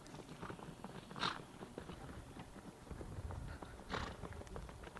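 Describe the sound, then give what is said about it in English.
Rapid, irregular hoofbeats from several horses galloping toward the listener, dense and rumbling, growing slightly fuller and louder as they approach, with a couple of brighter bursts mixed in. “I hear the galloping of the horses as they approach us and about to stampede us.”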